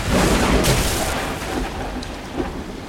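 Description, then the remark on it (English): A loud thunder crack from a lightning bolt sound effect bursts out and rolls into a heavy, sustained rumble with a rain-like hiss beneath it, fading slightly over a few seconds. No one speaks. “as they get, like, smashed in the chest by a lightning bolt.”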